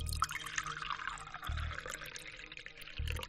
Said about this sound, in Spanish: Sin mediar muchas palabras, abrió la boca del anciano, le bajó la lengua con un bolígrafo y vertió agua en su garganta.